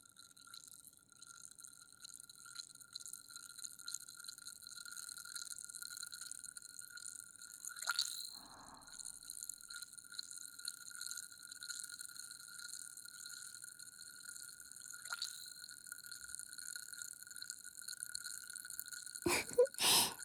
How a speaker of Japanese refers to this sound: 泡立ってきましたね。人肌で温められると炭酸が弾けるよう調整したんですよ。